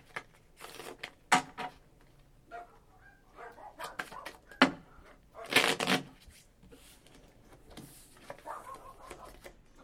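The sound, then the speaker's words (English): Playing cards being shuffled for a round of a card game, a series of quick papery riffles and flutters with a louder burst in the middle, with brief soft sounds in between. “Go on then, shuffle the cards.”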